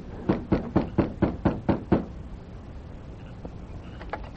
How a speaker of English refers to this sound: After making certain the sheriff was in the house alone, the masked man knocked on the front door.